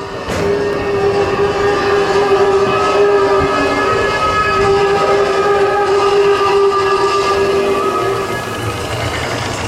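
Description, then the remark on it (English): A roller coaster train leaves a temple-themed section and climbs into a Himalayan-themed mountain range, running steadily along its track with a loud, sustained mechanical rumble and a persistent droning whine throughout, without pause. “The temple is decorated with artifacts to the creature and features a large mural of the legend overhead as the train leaves the temple.”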